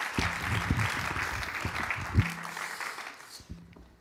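An audience applauds steadily to welcome an interview guest to the microphone, a dense crackle of many hands clapping at moderate volume, with a few stray low thumps, before the clapping thins and fades out near the end.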